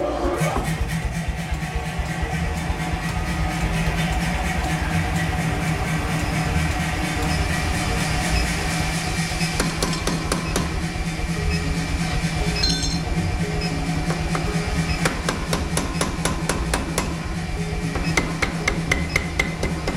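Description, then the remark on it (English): A power hammer pounds away in a fast, steady rhythm of heavy metallic blows, loud, with a constant mechanical drone underneath and occasional ringing clinks of metal. “So now I'll show you what the power hammer does.”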